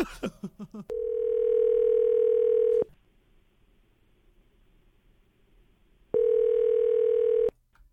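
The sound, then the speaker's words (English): A woman's phone number is dialed: a quick run of telephone keypad dialing beeps, then a long steady line tone that stops, a few seconds of near silence, and the same tone sounding again. Clear, with no talking. “We'll see if we can get her on the phone, okay?”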